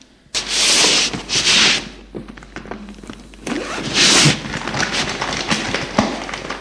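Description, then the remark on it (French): A small suitcase is opened on the table of the main room, with long raspy zipper-like pulls, scraping rubs and a few soft thuds as the case is handled. No one speaks. “Il a ouvert sa valise sur la table de la pièce principale.”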